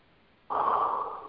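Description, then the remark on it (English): Heavy breathing right up against a microphone from a caller on an unmuted phone line: one loud, rasping breath starts abruptly after a short quiet stretch and holds steady for almost a second, with no voices. “Ooh, that sounds like, you sound like Darth Vader.”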